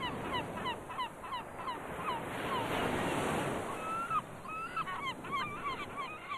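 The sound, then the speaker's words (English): A flock of seagulls calls constantly in sharp, overlapping cries over a steady roar of crashing surf, with the wave noise swelling loudest in the middle, as guests feed the gulls at the stormy northern tip of Honshu Island, Japan. “There is also food for the guests to feed the seagulls, enticing them in for photographs.”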